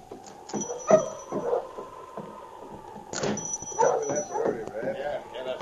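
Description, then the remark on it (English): A sled dog team barks and yips excitedly in repeated overlapping bursts as it arrives in town, while people shout and talk over the commotion. “For instance, when he arrived in town with a dog team...”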